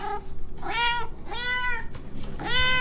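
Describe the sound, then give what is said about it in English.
A cat meows three times in quick succession, each call drawn-out and tonal, loud against a faint background hum. “Must distract with cute cat videos immediately.”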